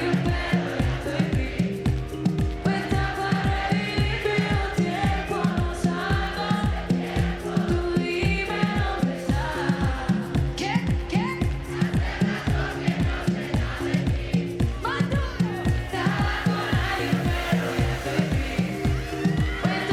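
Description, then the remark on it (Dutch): A large festival crowd at Coachella sings along loudly to live music, their massed voices riding over a steady, pounding bass beat that keeps going throughout. “Ja, het Coachella publiek staat niet bekend als het meest wilde publiek wat er is, maar hier werd er wel echt goed meegedaan.”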